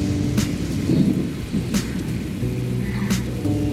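Steady rain pours down while deep thunder rumbles continuously in the low end, with a few sharp crackling bursts standing out at intervals; no voices are heard.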